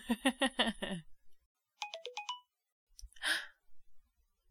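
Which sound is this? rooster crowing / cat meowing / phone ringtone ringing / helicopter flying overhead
phone ringtone ringing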